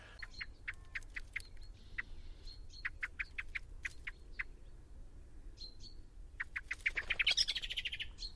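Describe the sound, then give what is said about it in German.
A blackbird's alarm call warning of a cat nearby: bursts of short, soft, evenly spaced call notes repeated in quick series, with a louder, denser run toward the end and no talking. “Die hat einen ganz typischen Warnruf, wenn eine Katze in der Nähe ist, der geht so ein ganz weiches Guck, Guck, Guck, Guck.”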